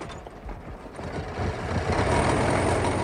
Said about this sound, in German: Der Motor läuft, Professor.